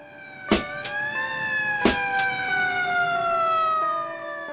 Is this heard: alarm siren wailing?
yes